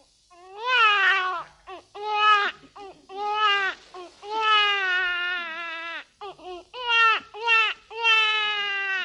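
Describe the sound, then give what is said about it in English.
A man imitates a baby crying as one of a series of country noise imitations, with a run of loud, wavering wails broken by short gasping pauses, clear, with nothing else alongside. “A baby crying.”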